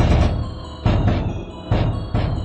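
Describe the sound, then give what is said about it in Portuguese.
A dramatic drum jingle: heavy, booming drum hits land in pairs, each leaving a deep, rumbling sustain before the next strike. It is loud and stands alone, with no talking. “Quem é o ouvinte que sente que treme nas bases quando ouve esses tambores?”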